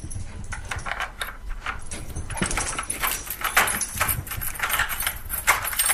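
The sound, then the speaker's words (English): A key jangles and scrapes in a door lock in the evening as the sun sets, a run of bright metallic clicks and rattles lasting several seconds, with no one speaking. “The sun was starting to set, and I heard the key in the door.”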